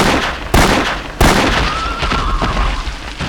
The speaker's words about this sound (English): His twin 41 Magnum revolvers rolled like thunder in his hands. The remaining two riflemen fell with their skulls crushed by 41 caliber flatheads.